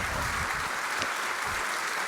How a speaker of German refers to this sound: Ein Applaus für Ben.